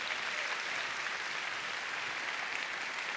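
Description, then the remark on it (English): Sustained applause from a church audience, clapping for news of tremendous growth in a church ministry over recent months. It fills the whole stretch, a dense, steady wash of many hands clapping at a fairly consistent level without pauses. “are seeing some tremendous growth over the last several months, and it is causing us, yes, you could clap for that.”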